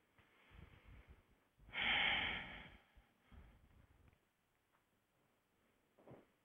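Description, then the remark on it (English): During a breathing exercise, a single long, deep breath dominates the middle, fairly loud, surrounded by quieter, softer breaths and near-silence, with one faint breath near the end. No talking. “Just keep breathing deeply for just a few seconds.”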